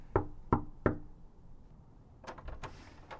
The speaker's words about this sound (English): I feel kind of weird about this, but I'm just going to go up to their door right now and knock, see if everything's cool. I walk up to the house, knock on the door.